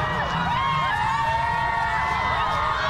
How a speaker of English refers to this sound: You've got the championship trophy. Listen to this crowd as they get a look at that trophy for the first time.